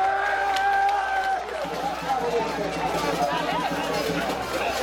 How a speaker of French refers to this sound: Voilà, c'est le candidat parti de la paix à Jude Célestin qui te prend la parole en Fort Liberté devant une foule partisane.